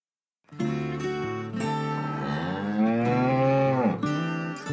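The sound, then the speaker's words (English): A single long, loud cow moo, a deep harmonic bellow that rises and swells in the middle before trailing off, with no talking. “Cows are large farm animals.”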